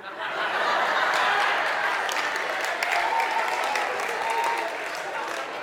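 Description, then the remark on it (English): A crowd applauding steadily, dense clapping spread across the whole stretch with some laughter mixed in, fairly loud and sustained without a break. “Who's clapping, the Milneton guys or the other guys?”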